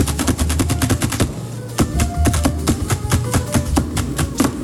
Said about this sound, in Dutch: En wat heb je dan in je handen, kwasten? Ja, dus wat jazzkwastjes voor de fancy, weet je wel. Ja. Voor het late uur zo. Maar klinkt het wel als het normaal instrument? Kan je het even laten horen?